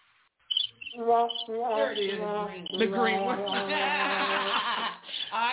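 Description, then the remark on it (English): A squeaking, bird-like sound effect, played from a button, warbles in a run of loud, wavering chirps and wah-like squeals, continuing almost without pause for several seconds. “That sounds like a bird squeaking. It's a wah, wah, wah.”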